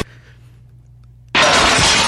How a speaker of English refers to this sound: That was a glass breaking because that it was off of the album ….